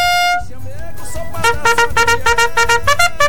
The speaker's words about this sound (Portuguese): Vamos dar corneta. Olha aí, ó. Corneteiro. Olha.